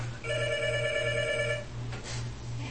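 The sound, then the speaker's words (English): A telephone rings with a steady electronic trill lasting over a second, then stops, leaving a low continuous hum underneath and a faint rustle afterward. “A phone call.”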